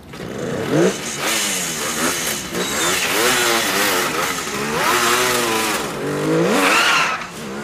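A car engine revs hard and accelerates away, leaving in a cloud of smoke, its pitch sweeping up and down through several gear changes in a loud, continuous roar with no talking.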